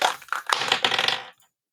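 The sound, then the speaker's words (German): Dice are rolled by one person for another, rattling and clattering across a hard surface for about a second, a dense burst of sharp clicks that stops abruptly, followed by quiet. “dein Thema, ich würfel mal für dich.”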